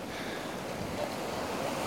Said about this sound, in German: Ne? Schönes Meer. Schönes Meer, ne?